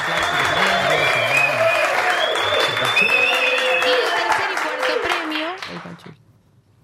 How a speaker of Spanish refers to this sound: Un aplauso también.